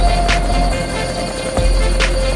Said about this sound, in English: I hear the crickets and traffic.